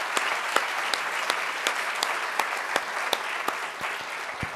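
Steady applause from an audience, a dense wash of many hands clapping with sharper individual claps standing out, holding at an even level throughout with no voices.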